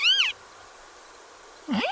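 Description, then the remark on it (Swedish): A male marsh harrier gives its spring display call while climbing high and tumbling in display flight: two loud, squealing, nasal cries with a rising-falling pitch, separated by over a second of quiet, the second beginning with a lower swooping note. “Men under våren så stiger hanarna ibland högt upp till väders och tumlar omkring där i en lustig spelflykt medan de ropar så här.”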